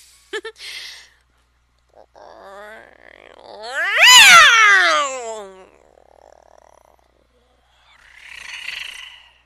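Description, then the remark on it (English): A person imitates a cat purring, producing a loud, wavering, falling cat-like yowl in the middle, framed by short scattered mouth noises and a brief breathy hiss near the end. “Wow, that's a really bad purring sound.”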